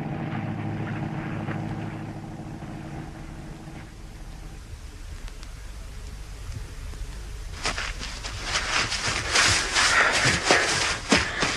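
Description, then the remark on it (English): A boat engine drones with a low, steady hum for the first few seconds, then fades into background noise before louder scuffing and clattering sounds. “Shh, listen. It's the boat.”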